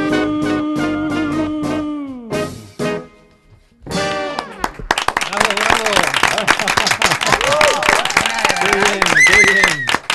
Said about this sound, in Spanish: Te están aplaudiendo bueno, fuera bueno.